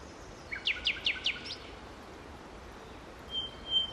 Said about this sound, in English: Listen. It's a nightingale.